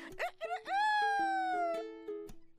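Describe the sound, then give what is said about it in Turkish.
A rooster crows once, a long drawn-out cock-a-doodle-doo that rises, holds and fades, heard clearly on its own with a faint steady hum underneath. “Sabah olmuş, horoz ötmüş.”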